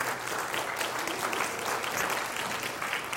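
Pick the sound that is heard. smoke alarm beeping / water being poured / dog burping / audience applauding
audience applauding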